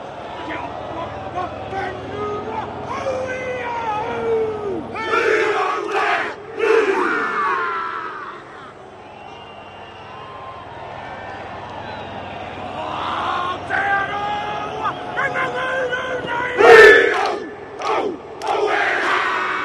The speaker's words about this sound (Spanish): los jugadores de Nueva Zelanda que se van a distribuir de forma triangular para hacer la jaca